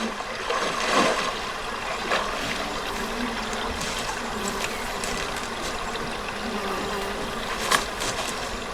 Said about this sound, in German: Also da passiert wahnsinnig viel, wenn man das hört. Man hört Wasser, man hört Laufen auf dem eher trockenen Gras.